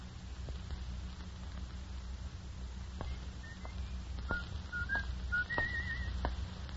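man whistling a tune

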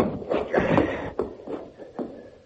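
unlocked door being opened

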